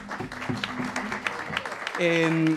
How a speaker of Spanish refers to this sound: persona física, también un aplauso, por favor.